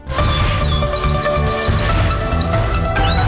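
A canary chirps and trills, with a quick run of short repeated notes followed by longer sliding whistles, all over a steady, dense background hum.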